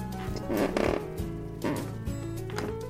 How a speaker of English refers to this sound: This creek, this noble creek, is the creek of generations. This is the creek which spurs every red-blooded Stantropolitan onwards, driving them to seek ever greater heights. No doubt to escape the creaky step,